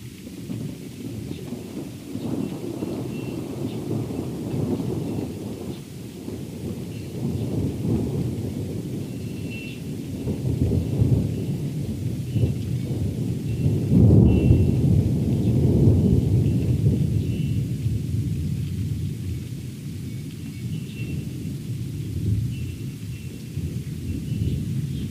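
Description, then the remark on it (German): Deep, rolling thunder from a thunderstorm that has just passed overhead rumbles on and off for the whole stretch, swelling to a louder crash midway, with a faint patter of rain and a steady wash of storm noise behind it. “Oh, das war ein so herrlicher Blitz eben. Aber das Grollen.”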